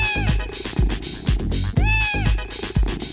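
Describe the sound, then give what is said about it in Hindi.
Two drawn-out cat meows, rising then falling in pitch, sound clearly over a steady thumping beat that repeats about twice a second. “बिल्ली मौसी आ जाएगी, झट से मुझको खा जाएगी।”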